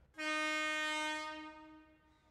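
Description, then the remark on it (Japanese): An approaching Alishan Forest Railway train bound for Xinbei sounds one long, steady, loud horn blast as it arrives and passes, holding for nearly two seconds before tapering off. No one speaks. “どうやら新北行きの列車が来たようですね。ちょっと通過音を聞いてみましょう。”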